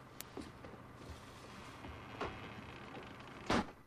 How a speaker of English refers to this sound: Jim watches as Lydia shuts the back door, then his eyes return to the stable.